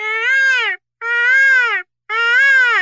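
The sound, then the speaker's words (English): A voice imitates a peacock call with three loud, drawn-out wailing cries, each rising and then falling in pitch, separated by short silences and sounding nasal, much like a crying baby. “Is that a peacock? I really hope so. Sounded like a baby with colic, but I'll take it.”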